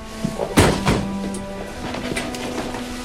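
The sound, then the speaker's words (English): A chair taken from near a window is set down on a hard floor in front of another person with a sharp wooden thunk and sat on, followed by a second lighter knock and a brief scrape, then a quiet hum remains. “then grabs a chair from near the window. He puts it right in front of Ray and sits down.”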